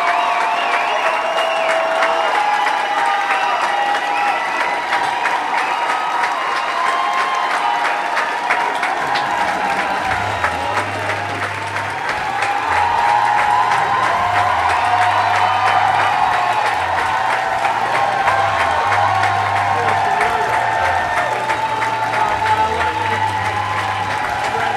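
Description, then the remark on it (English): A concert crowd applauds and cheers loudly and steadily throughout, a dense clapping roar with occasional whoops, while low bass music starts partway in beneath it. “Music's come on, but that hasn't stopped the crowd either.”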